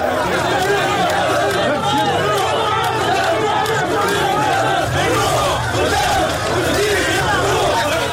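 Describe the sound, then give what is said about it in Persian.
A dense crowd of supporters of Tunisian President Kais Saied chatters and calls out in the street at night as he walks with them, many overlapping voices forming a steady, loud hubbub that continues without a break. “قیس سعید شب گذشته پس از آنکه تصمیم خود در زمینه خانه تکانی اساسی در عرصه سیاسی تونس را اعلام کرد، به خیابان رفت و چند قدمی در همراهی با هوادارانش در تاریکی شب قدم زد.”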